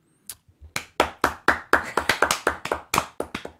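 Brief scattered clapping, a quick string of about fifteen sharp, crisp claps that speed up slightly after a hesitant start, moderately loud with no voices over it.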